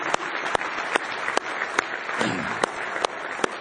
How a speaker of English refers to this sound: Let's give Him one more hand clap of praise tonight if you love Him.